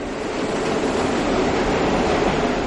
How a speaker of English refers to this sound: I was at the 79th Street and Broadway stop by happenstance. All four trains came in at the same time, and the noise was really mind-boggling.